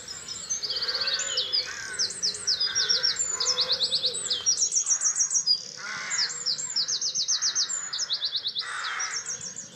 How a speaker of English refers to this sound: I've had blue tits nesting in my garden for 20 years. They probably think it's feathers for the nest, for lining the nest.